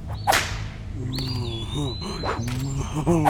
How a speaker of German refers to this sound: Nein, besser mit meiner Peitsche.